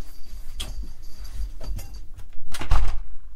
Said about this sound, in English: Sorry, you want the door opened? Yeah, no problem at all. Can do that for you. Absolutely no problem at all. There you go.